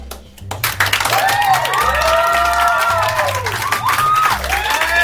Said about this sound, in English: Now, in this little art space, the room is packed with hipster doofuses. Now, I want you to listen to the applause. This is the reaction she received for whatever that was.